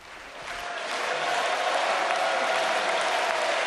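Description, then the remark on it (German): A large crowd of CDU supporters applauds steadily for Angela Merkel's speech at a campaign rally in Bad Salzuflen, North Rhine-Westphalia, Germany, a dense wash of clapping that swells within the first second and then holds loud and even, with no voices standing out. “Minutenlanger Applaus für eine gute, kämpferische Rede.”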